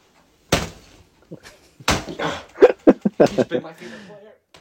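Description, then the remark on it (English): A fist punches an older Everton football jersey, number 30, with two heavy, dull thumps about a second apart, loud, followed by a burst of muffled vocal sounds. “he is punching. He is punching his Everton Richarlison jersey”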